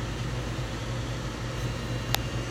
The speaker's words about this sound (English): The printer's gonna continue warming up, so it's like right about there.